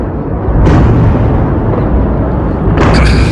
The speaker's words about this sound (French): Le dôme de fer n'a pas empêché une partie des missiles de toucher sol. Des façades de bâtiments soufflées à Jérusalem. Ce sont les explosions les plus fortes entendues depuis le début du conflit, affirment de nombreux journalistes sur place